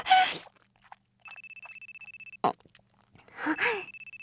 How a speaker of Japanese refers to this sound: 電話かかってきちゃった。